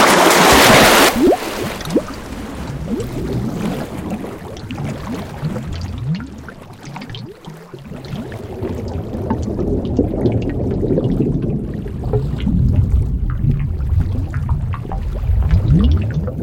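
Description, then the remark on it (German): Water sloshes and churns steadily as strokes pull through it at sea during a race, with splashing and gurgling after a brief loud burst at the start. No one speaks. “Arme durchziehen, Wasser beiseite räumen, Beinschlag lostreten.”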